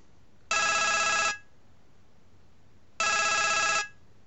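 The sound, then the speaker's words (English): A bright, buzzy phone ringtone meant to sound like a doctor's phone, taken from the early-1980s game Fairlight, sounds in two separate bursts of just under a second each, with a pause between them. It's clear and fairly loud, with no talking. “It's supposed to sound like a doctor's phone.”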